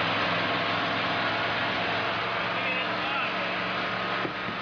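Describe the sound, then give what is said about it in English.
The engine of a small silver Mercedes car rumbles steadily throughout, a constant low drone with broad hiss on top, even in level, as if heard from inside the moving vehicle. “A Mercedes, right? That's right, a small silver one.”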